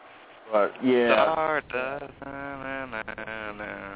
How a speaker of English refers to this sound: Now he's back to fucking humming again.